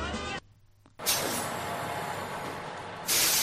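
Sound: bus air brakes hissing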